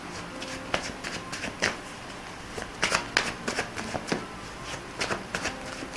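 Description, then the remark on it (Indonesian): A deck of tarot cards being shuffled again during a reading, with irregular bursts of papery slapping and riffling that cluster in quick flurries. No one speaks. “Bunda mau pak ulang lagi ya, Bunda kocok lagi, sah lagi.”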